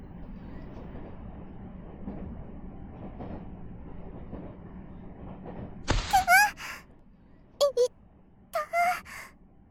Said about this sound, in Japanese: この電車は通勤快速、市役所前駅です。次は中学校前です。